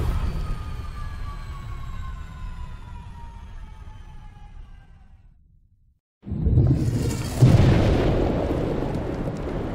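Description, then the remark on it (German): A low rumble with slowly falling whistling tones fades into brief silence, then a loud explosion boom bursts out, a second blast follows, and a long roaring rumble trails off. No one speaks. “Er habe die universelle Weltenzerstörungsmaschine erfunden, und die Explosion in Tunguska 1908 sei ein Ergebnis seiner Arbeit.”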